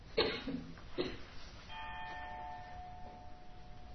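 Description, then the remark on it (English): A large outdoor bell on a 20-acre property, rung by a man in his seventies about ten minutes before prayer time, clangs twice in quick succession, then its deep metallic tone rings on and slowly hums away, fairly quiet with no voices. “You rang that bell, everybody on the 20 acres could hear it.”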